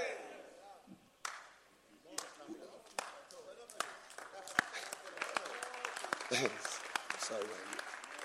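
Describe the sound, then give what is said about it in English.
Scattered claps start slowly, then build into dense, steady applause from a crowd, with murmuring voices underneath throughout. “Because the way you clap, like you know.”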